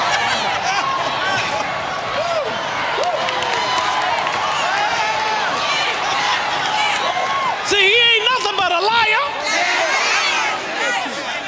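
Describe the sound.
A crowd stomps its feet in a steady, thundering rumble of thuds, with excited shouting and cheering voices layered over the pounding, growing louder near the end.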